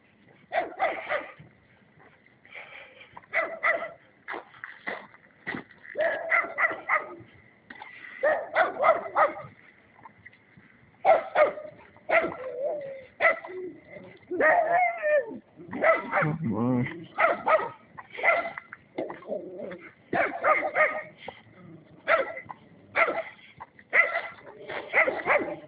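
A dog barks repeatedly in sharp, irregular bursts, mixed with lower rumbling growls, loud, with brief pauses between volleys throughout.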